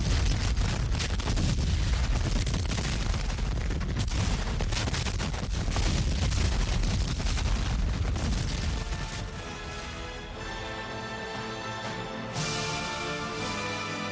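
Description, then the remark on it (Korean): A dense, continuous barrage of booming cannon fire and rapid gunshots, as the Union and Confederate armies in the American Civil War shell each other's lines, rumbles for about nine seconds, then thins into a quieter tonal musical passage with scattered thuds. “북부군과 남부군 모두 상대편 전선을 향해 무섭게 대포를 쏘아댔습니다.”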